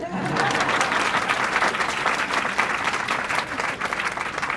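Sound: audience applause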